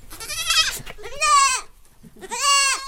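Three loud goat bleats in a row, each a wavering, nasal cry with strong harmonics, separated by brief pauses, with a faint bit of background noise, on a farm on the edge of Nimbin, west of Byron Bay.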